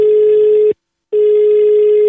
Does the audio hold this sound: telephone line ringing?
yes